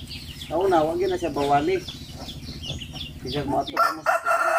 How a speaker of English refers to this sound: And then the chicken is very Jesus Christ aggressive. So loud. Uh-huh. So mad.